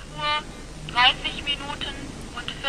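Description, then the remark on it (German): A telephone rings in short, repeated bursts as an automatic wake-up call, thin and moderately loud, with a faint hiss of line noise between the rings. “Nur 60 Pfennig kostet dann der automatische Weckruf.”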